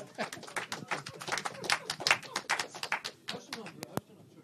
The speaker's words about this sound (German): Ich darf trotzdem klatschen